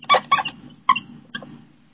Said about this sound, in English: It's a really squeaky marker.